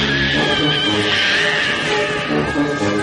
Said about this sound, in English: and you hear in the several times in the movie, there's a weird cat yelping sound, like, you know?